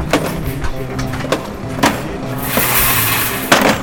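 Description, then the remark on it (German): Loud clattering and hollow thuds as a portable toilet is unloaded from a BSR sanitation truck, with scraping and a steady engine rumble underneath and a few sharp knocks near the end. “Ein Dixi-Klo wird vom BSR-Wagen abgeladen.”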